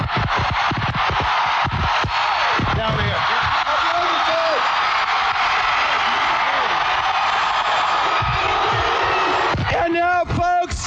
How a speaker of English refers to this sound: We're going to divide the crowd in two, this side, and we're going to see who's the rowdiest.